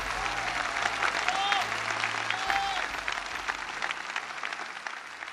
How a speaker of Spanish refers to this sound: Un aplauso a la Virgen de Luján. Más fuerte, no siento, más fuerte.